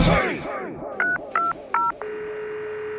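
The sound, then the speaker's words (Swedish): Three short beeps from a telephone keypad being pressed in quick succession to call someone's mother, then a steady tone, heard clear after a brief burst of noise at the start. “Ja, jag måste ringa upp min mamma.”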